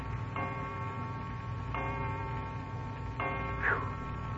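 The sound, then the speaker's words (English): A clock strikes three slow, evenly spaced chimes, each bright ringing tone lingering before the next, over a steady low background hum. “O'clock, and we were going to bed at 8:30.”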